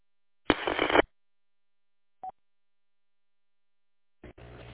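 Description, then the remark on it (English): Bursts of hissing radio static with a single short electronic beep between them: phone tones coming through a ham radio repeater; no one speaks. “Very annoying sometimes, that stupid repeater on the phone. Keeps on going”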